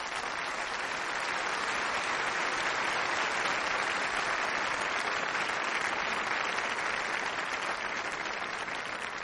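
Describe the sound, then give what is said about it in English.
A large audience claps steadily and loudly to welcome the guest Bill Irwin, a dense, sustained wash of applause that holds at an even level for several seconds without any talking. “Welcome with me, with a great applause, Bill Irwin.”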